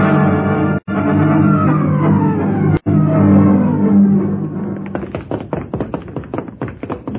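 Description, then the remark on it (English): A steady, dense rumble of background sound gives way after several seconds to rapid, heavy pounding, a flurry of thuds like bodies and fists battering at a palace door to break it down. “Hurry, you fools! Break the door down!”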